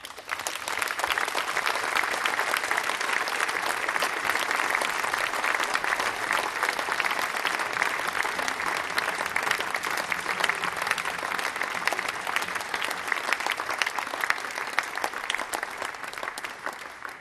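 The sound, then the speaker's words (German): Sustained applause from a sizeable audience at a school event, for the graduating Abitur students, a dense steady patter of clapping hands that stays loud and even for the whole stretch with no speech over it. “Denn es heißt Abschied nehmen von uns, von den Abiturienten, die am vergangenen Freitag in einer glanzvollen Veranstaltung von der Schule verabschiedet worden sind und, glaube ich, auch von Ihnen noch einen kräftigen Applaus verdient haben.”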